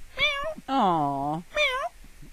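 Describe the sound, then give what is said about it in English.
Three plaintive mews in quick succession from a kitten riding in the bumper of a Jeep, heard when the driver stopped for coffee in upstate New York, fairly loud: a short high mew, a longer, lower drawn-out one, then another short high mew. “A woman was driving her vehicle through 100 miles of upstate New York roads, and she stopped to get something to eat, and she heard a mewing.”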